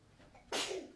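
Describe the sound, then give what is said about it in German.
A single sharp sneeze bursts out suddenly after a quiet moment, loud, with a breathy hiss trailing off briefly. “Gesundheit!”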